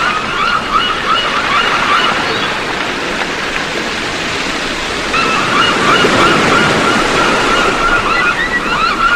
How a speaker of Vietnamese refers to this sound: Nhưng chỉ có tiếng gió gào trên mặt nước và tiếng sóng biển va vào đá ầm ầm.